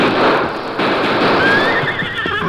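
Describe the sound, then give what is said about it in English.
A horse neighs loudly, its whinny rising over a dense, noisy background that fills the short recording without speech. “Can your horse do it? Yes, he can do it. Steady, Silver.”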